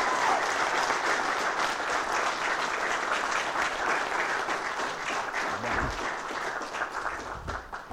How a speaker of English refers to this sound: Everybody give them a big, hearty round of applause.